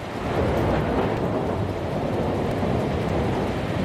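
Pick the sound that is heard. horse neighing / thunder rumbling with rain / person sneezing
thunder rumbling with rain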